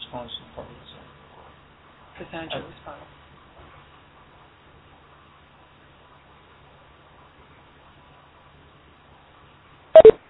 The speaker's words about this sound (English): if you want to unmute your phone, if you could push star six.